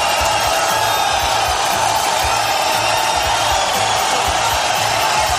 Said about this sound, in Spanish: Pero hay más pitidos y abucheos.